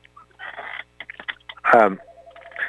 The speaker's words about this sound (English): excuse me for a second, this phone is just going ape. Can you hear that? Okay. It happened once before. It just has a conniption fit.